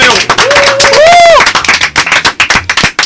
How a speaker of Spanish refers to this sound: Un aplauso para los primeros.